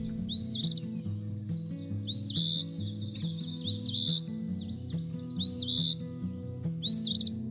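An Eastern Phoebe calls five times in a steady rhythm, each short, raspy two-part phrase clear, over a soft, low sustained musical drone.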